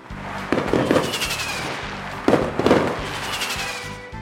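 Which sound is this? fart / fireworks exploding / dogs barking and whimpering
fireworks exploding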